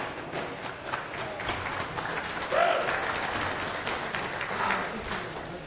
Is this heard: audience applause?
yes